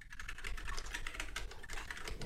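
Rapid, continuous typing on a linear mechanical keyboard with Kale Silver switches, a dense stream of key clacks at a steady pace with no one talking.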